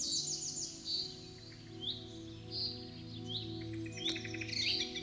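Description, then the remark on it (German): Several birds chirp and twitter in bursts of high, bright notes over a steady low hum, with no voices, a lively birdsong chorus in a forest on a warm spring day. “Es duftet herrlich nach Frühling und überall zwitschern die Vögel.”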